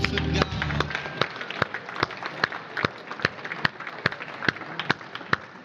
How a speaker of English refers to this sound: Okay, everybody, give yourselves a big hand clap.